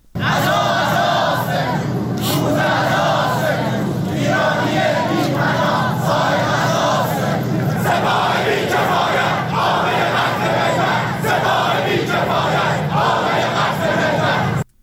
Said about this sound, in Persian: بنابر گزارش ها دانشجویان معترض روز یکشنبه در دانشگاه بهشتی تهران در اعتراض به سرنگونی هواپیمای مسافربری اوکراینی علیه سپاه پاسداران و رهبر جمهوری اسلامی شعارهایی دادند.